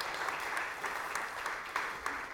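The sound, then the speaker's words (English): A church crowd claps steadily as a curtain opens ahead of a baptism, a dense, continuous patter of many hands, with brief sharper bursts standing out, at a moderate level with no speech over it. “You guys can clap if you want to. It's okay. Yeah. Clap.”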